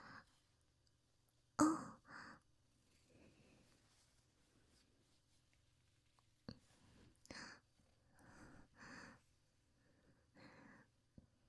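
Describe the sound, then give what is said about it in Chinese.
Heavy breathing from an older brother: a few loud, rough breaths and exhales come in uneven bursts, separated by quiet pauses, with no talking. “哥哥的呼吸声好重啊！”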